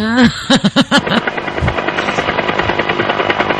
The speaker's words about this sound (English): Oh. A helicopter. He's a helicopter.